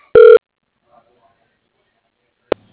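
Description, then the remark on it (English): A single telephone keypad tone sounds for pressing 1 in an automated phone directory, confirming the person being called: one short, steady electronic beep, loud and clean, followed by near silence and a brief soft click. “If this is the person you are looking for, press 1 now.”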